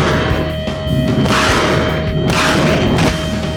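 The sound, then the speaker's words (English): Heavy mortar shells fired in by pro-Gaddafi troops at rebel rocket launchers on a desert sandbank explode in deep, rumbling booms, two big blasts rolling one after another over a constant roar of noise, with no voices. “They send their mortars thundering in.”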